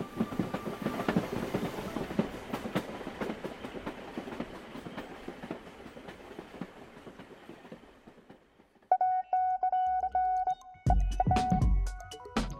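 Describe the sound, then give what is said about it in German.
A train rumbles along the tracks with a steady clickety-clack that gradually fades away, followed by a sustained whistle-like tone and a few sharp metallic clanks. “sobald die Schienen zu klingen beginnen, wird der Zug eine Vorstellung sein. Und lange werden sie ihm nachsehen wollen, wie er hingeht und hinter einem Hügel zwischen Himmel und Erde verschwindet, als wäre er der eigene, vergangene Tag.”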